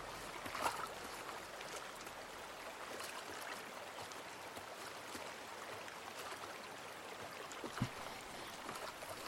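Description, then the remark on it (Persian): River water flows steadily in a continuous, rushing wash with no voices, by a riverbank where a fishing basket has been thrown into the water, broken by a couple of brief splashes or knocks near the start and toward the end. “کنار رودخونه، سوتربکس سبد ماهیگیری رو انداخته توی آب.”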